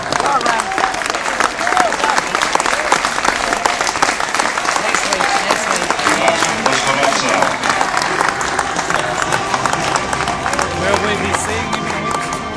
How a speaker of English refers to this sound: I think, to be honest, it's applause more in recognition of what he's done career-wise rather than the 24 that he just had. So Mark Rampercash, Mr. Ramps, is walking here in the Pro 40 match at the Oval between Surrey and Glamorgan.